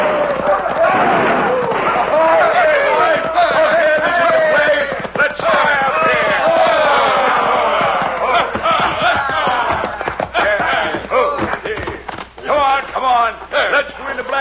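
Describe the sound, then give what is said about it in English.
A rowdy crowd of hoodlums riding into the town of Dos Rios shouts and whoops continuously, many voices overlapping in loud, wild yells, with scattered sharp gunshots and hoofbeat-like clatter beneath the clamor. “It all started when a crowd of hoodlums rode into Dos Rios, airing their lungs and triggering their guns.”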